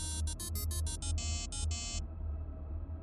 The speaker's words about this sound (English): Snow was falling slowly, and with it descended that muffled quiet that snowstorms often bring. My ringing phone sounded jarringly loud in contrast.